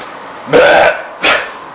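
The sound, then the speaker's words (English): A loud burp rumbles for nearly half a second, followed shortly by a second, briefer burp; no talking, just quiet in between. “A gigantic burp exploded between my lips.”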